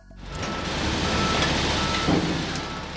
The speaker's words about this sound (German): Ein Lastwagen nach dem anderen leert seinen Inhalt in die Tiefe.